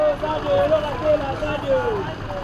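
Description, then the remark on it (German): Dense rush-hour traffic of cars, buses and trucks in Kolwezi, Katanga, crawls slowly around a sharp curve on a four-lane road, rumbling steadily with engine drones and a whining tone rising and falling, and indistinct voices mixed into the street noise. “Berufsverkehr in Kolwezi. Autos, Busse, Lastwagen quälen sich langsam um eine scharfe Kurve.”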